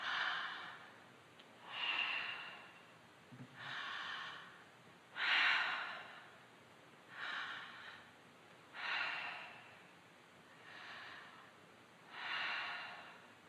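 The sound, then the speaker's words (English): Slow, steady mouth breathing, about seven airy breaths in and out at an even rhythm over quiet background, with no talking. “It's in the room, all through, in and out through your mouth.”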